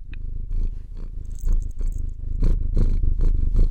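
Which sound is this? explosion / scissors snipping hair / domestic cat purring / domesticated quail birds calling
domestic cat purring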